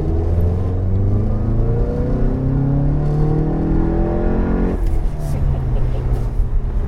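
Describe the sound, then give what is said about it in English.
A car engine accelerates hard, its deep, bellowing exhaust note climbing steadily in pitch before dropping abruptly at a gear change and pulling again, loud throughout. “You'll note the exhaust has a bit of a bellow to it.”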